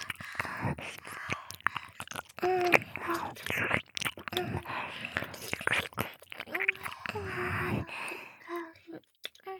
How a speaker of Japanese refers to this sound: ほら、頑張ってケーキも食べましょうね。もぐもぐして、はい、こっくん、おいしかった よかった。たくさんあるからじっくり味わって食べてね。